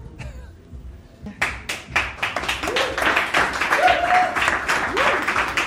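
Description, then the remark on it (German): After a brief quiet moment, an audience breaks into steady, dense applause as a guest is called onto the stage, the clapping growing fuller and carrying on, with a few faint whoops and voices rising through it. “ich würde jetzt Laila auf die Bühne holen wollen. Applaus!”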